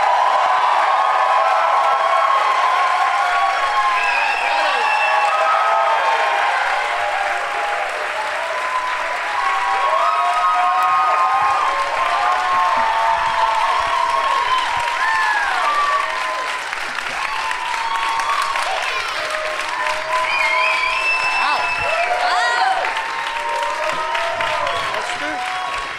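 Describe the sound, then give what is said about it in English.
A live audience applauds loudly and steadily to welcome show guests Sam Roberts, Ron Bennington, Esther Koo and Jim Norton, dense clapping mixed with whoops, whistles and shouted cheers that rise and fall without letting up. “Please give a big warm welcome to Sam Roberts, Ron Bennington, Esther Koo, and Jim Norton.”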